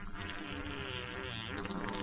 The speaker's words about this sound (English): We lost the fart sounds again.